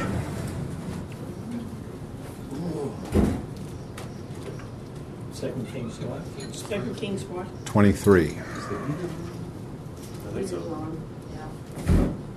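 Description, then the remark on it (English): An electric fan runs steadily in the background, a constant low whooshing hum, while a few sharp knocks like a drawer or door land over it and a voice talks briefly. “But yeah, something's running. Just turn the fan off. The fan was on.”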